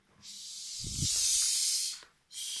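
A long, steady, loud hiss like an angry goose, breathy and high-pitched, holding for nearly two seconds before a short break and then starting again.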